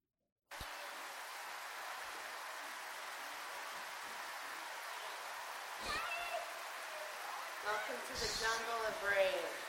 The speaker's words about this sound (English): So here's a video of the rain.